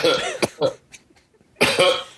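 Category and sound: human body sound, man coughing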